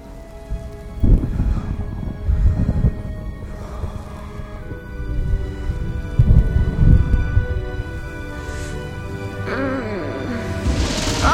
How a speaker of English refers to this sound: When Diamond awoke, thunder was rolling across the sky and seemed to crash over his head.